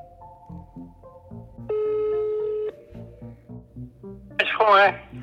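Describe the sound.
A telephone line tone sounds steadily for about a second over a low musical background as students phone a witness, followed by a brief burst of a voice as the call seems to connect.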